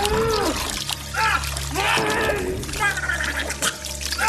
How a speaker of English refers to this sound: Please clip the gargling noise.